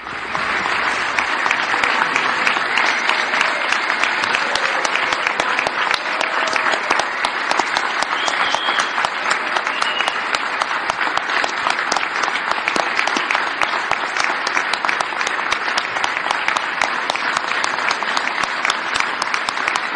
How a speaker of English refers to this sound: Lots of applause here. Nancy Pelosi standing and applauding.